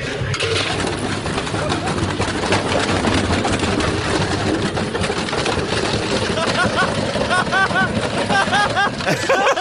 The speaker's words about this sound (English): Because this guy takes this brick and puts it in the washing machine, and the washing machine turns over because the brick and the washing machine is bouncing down the road, basically.